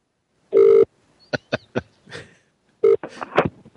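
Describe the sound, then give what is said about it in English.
A phone handset is slammed down by a caller with a few sharp clattering knocks, bracketed by short buzzy telephone tones, fairly loud, with no talking. “Oh, he's like, just slammed the phone. You heard him.”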